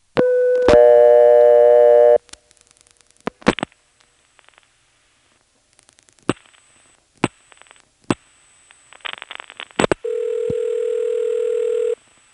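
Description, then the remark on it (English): A coin payphone line sounds a steady dial tone, followed by a handful of sharp clicks and short switching bursts as 8 plus 611 is dialed for repair service, then a second long, steady tone that rings out alone before cutting off. “8 plus 611 for repair service works just fine from a coin phone.”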